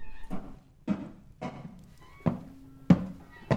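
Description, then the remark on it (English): Six heavy, hollow thuds strike a wooden front door in a slow, steady rhythm, each a loud bang with a brief resonant ring. There is no talking. “Something is banging on the front door below.”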